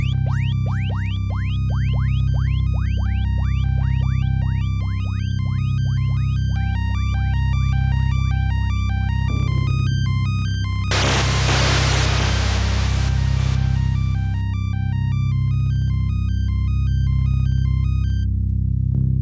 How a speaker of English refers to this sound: Muted keyboard arpeggio that fades into and out of hearing while ambient sounds and effects play over top. This track only plays during certain mini-boss encounters, rather than during Space Harrier's hyper-fast forward-scrolling combat sequences,